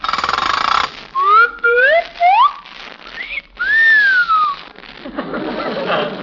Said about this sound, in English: Golly, what was that? The zipper. It always whistles going around the curve.